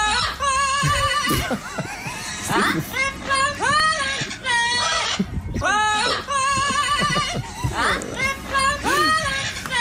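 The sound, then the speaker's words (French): A parrot named Chico sings a pop song in a loud, warbling, slightly screechy voice, with sliding, wavering notes running almost nonstop in short bursts for about ten seconds. “Eh ben Chico le perroquet, il la chante la chanson et c'est fascinant, écoutez.”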